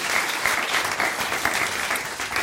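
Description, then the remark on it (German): An audience applauding steadily, a dense wash of many hands clapping at an even, fairly loud level throughout, with no voices standing out. “Applaus, oder? Das ist super.”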